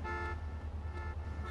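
Car horns blare in a continuous, overlapping honk, loud, with a steady rumble of traffic underneath and no break in the noise.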